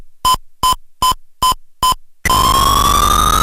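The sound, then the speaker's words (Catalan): Five short, evenly spaced electronic beeps with a harmonic-rich tone, followed by a loud, continuous buzzy tone that slowly rises in pitch over dense noisy texture, from a 1984 Ultimate video game for the 48K ZX Spectrum. “Recordat per molts, aquest so pertany a la Tic Tac i és de l'any 1984.”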